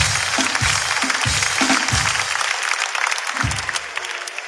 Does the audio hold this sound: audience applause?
yes